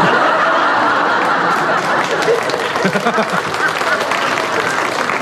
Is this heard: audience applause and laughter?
yes